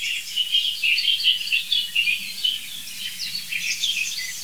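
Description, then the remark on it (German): A song thrush sings in a steady stream of bright, repeated whistles and chirps, clear, with no voices, over a faint low rumble in the background. “Das ist eine wirklich leitende Singdrossel, würde ich sagen.”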